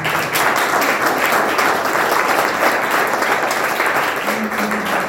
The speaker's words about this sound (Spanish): Un aplauso para mí.